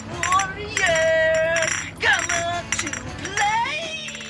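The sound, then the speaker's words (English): Beer bottles clink together four or five times at a slow, deliberate pace, each strike leaving a bright glassy ring, as gang members menacingly clink them while threatening rivals in the 1979 movie The Warriors. Fairly loud, with a voice-like sound faintly underneath. “The movie The Warriors, which was made in 1979, is about gang members who menacingly clink beer bottles together while threatening rivals.”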